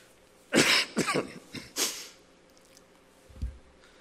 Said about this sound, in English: I can tell that I haven't spoken this long for a long time, because I have to cough once in a while.